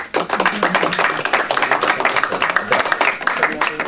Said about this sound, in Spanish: Bueno, pues sin más, muchas gracias y ahora sí podemos darles un aplauso.